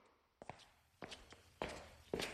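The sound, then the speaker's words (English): Footsteps walking at an unhurried, steady pace, four distinct steps that grow louder with each one, heard alone with no talking. “I hear someone walking.”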